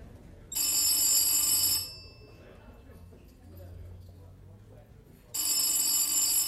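A telephone bell rings loudly in two bursts, a call from Prague shortly after midnight taken by the porter, a bright metallic trill of just over a second each, separated by a few seconds of quiet low background rumble.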